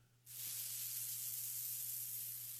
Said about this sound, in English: Someone's frying something.